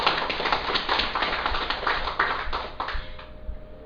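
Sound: audience applause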